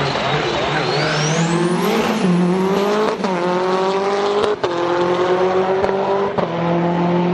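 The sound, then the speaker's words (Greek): A five-door racing hatchback's engine revs hard, climbing through several sharp gear changes, with a high-pitched squeal rising early on and a steady roaring drone throughout. “δύσκολα χιλιόμετρα με τέτοιες ταχύτητες”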